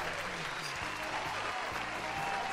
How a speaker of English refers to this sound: All right, let's have a round of applause for our fantastic contestants,